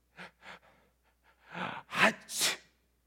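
Two short sharp breaths, then a rising wind-up that bursts into a loud, explosive sneeze with a final hissing blast, with no talking.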